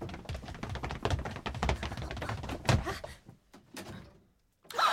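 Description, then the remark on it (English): Rapid clunks and rattles as a door handle is worked, then a louder thunk as the door gives way and swings open, followed by a short quiet pause. “Try that door.”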